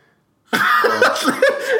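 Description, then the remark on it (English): A loud bout of throat clearing and coughing after a brief silence, rough and rasping for over a second with no talking. “Sniffling and clean your throat.”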